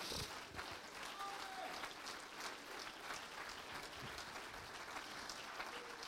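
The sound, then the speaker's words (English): An audience claps together at the preacher's call, a sustained, dense wash of applause lasting several seconds, loud and steady, with faint voices murmuring underneath. “All clap your hands unto it.”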